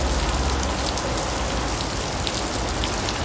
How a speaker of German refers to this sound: Na? Genau. Dauerregen auf Platzregen.